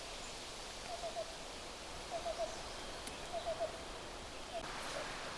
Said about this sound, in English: That's a black-billed cuckoo. And they absolutely love to feed and follow outbreaks of tent caterpillars, forest tent caterpillars. So that's why they're around.